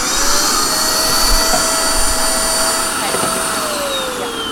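A vacuum cleaner vacuums out an emptied instrument case with the bow removed, running steadily and loudly throughout, its motor whine holding a constant pitch with a broad rushing hiss of suction, uninterrupted by speech.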